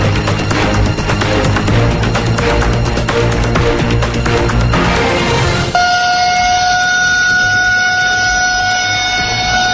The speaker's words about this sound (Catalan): És el so de les sirenes a Síria quan s'ha desencadenat l'atac amb míssils fa unes 5 hores